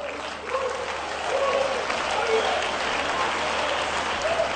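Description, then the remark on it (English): An audience claps steadily in a dense, continuous wash of applause, with faint voices calling out underneath and the clapping swelling slightly after the first second. “Moment, vous clap hands the way you are clapping.”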